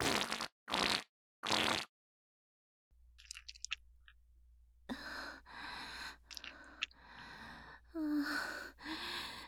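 Three quick, airy bursts open, then after a quiet pause a longer run of wet, squelchy, sputtering noises, fairly loud: a loose fart with loose stool coming out along with it. No one speaks.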